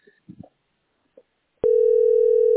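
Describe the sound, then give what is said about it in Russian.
A few faint clicks and handling noises as someone places a phone call, then a loud, steady telephone dial tone starts abruptly and hums continuously without a break until the end. “я вижу, звоню по телефону.”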